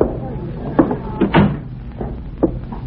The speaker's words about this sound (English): Shut the door.